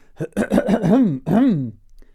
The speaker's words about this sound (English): Oh, my voice is going. How do I clear my throat in the sexiest possible way?